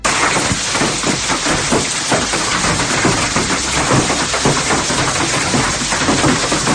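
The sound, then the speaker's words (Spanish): Heavy storm rain pours down steadily during storms that brought hail to the province of Castellón, Spain, a dense, constant hiss with fine patter throughout and no voices. “Las tormentas dejaron otra vez granizo en la provincia.”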